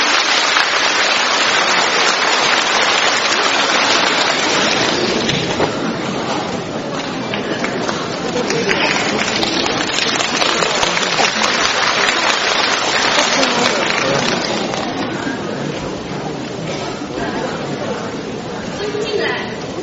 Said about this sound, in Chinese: 请大家掌声欢迎。